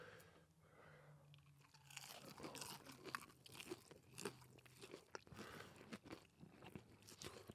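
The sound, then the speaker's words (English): Crunchy chewing of hot peppers with repeated sharp bites and crackles in an irregular rhythm, loud, no talking, the crunching growing busier after the first couple of seconds. “I'm not even chewing the same.”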